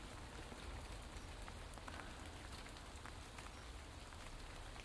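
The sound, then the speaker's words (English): Steady rain pours straight down evenly in the morning under grey skies, a dense continuous hiss of drops striking a surface with scattered brighter patters, consistent throughout with no voices. “But it's that wonderful, wonderful straight down rain.”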